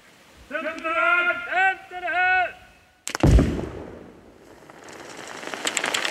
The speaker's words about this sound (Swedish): En gnista letar sig blixtsnabbt fram genom sladden som går ner i sandhögen. Explosionen blir stor, smällen stark och dov.